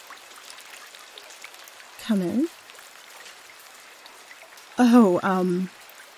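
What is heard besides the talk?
heavy rain pouring down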